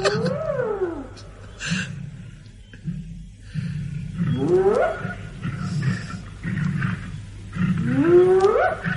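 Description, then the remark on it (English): Lions and spotted hyenas at a kill: continuous low growls and snarls of a feeding lion rumble underneath while the hyenas, waiting their turn to feed, let out several loud, sweeping whoops and whines that rise and fall in pitch. “I wonder if we can remind you of that night in the bush with this recording of lions and spotted hyenas prowling about them.”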